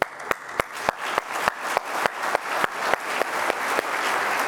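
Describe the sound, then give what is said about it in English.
A crowd applauds steadily for several seconds, with a few sharp, louder claps punctuating the dense, even clapping, honoring volunteers recognized as warriors for water by WQRF. “For all of those who have been recognized as a warrior for water, can I ask you to stand so we can applaud you as well, please?”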